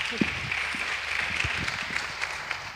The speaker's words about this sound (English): Give them a nice round of applause, everybody.